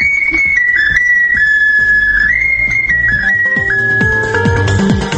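A Ukrainian souvenir whistle is blown continuously, piping a shrill, high melody that steps between a few notes, with a busy, rhythmic low backing underneath growing fuller toward the end.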